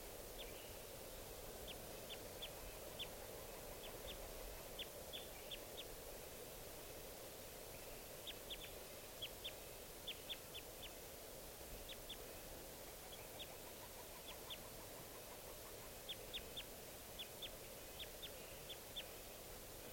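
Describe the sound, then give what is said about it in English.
Bursts of short, high chirping calls from a wild bird repeat every few seconds, fairly faint against a steady rushing background like wind or water. No one speaks. “Wild bird.”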